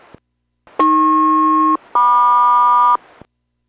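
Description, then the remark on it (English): A two-tone aircraft SELCAL chime heard during a radio check with an airborne Boeing aircraft: two sustained, harmonically rich tones about a second each, played back to back with a brief gap, loud and clear with no voices. “Cell call checks, good, standby for 2”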